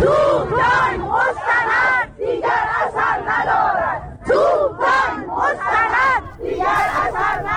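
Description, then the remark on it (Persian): A crowd of retirees gathered in front of the Ministry of Cooperatives, Labour and Social Welfare chants protest slogans in unison, including that cannons, tanks and torture no longer work. Loud voices rise and fall in a steady rhythmic cadence of repeated phrases with short breaks between lines. “امروز در جریان تجمع بازنشستگان در مقابل وزارت تعاون کار و رفاه اجتماعی گروهی از تجمع کنندگان شعارهایی دادن، از جمله توپ تانک مستند دیگر اثر ندارد و شکنجه مستند دیگر اثر ندارد.”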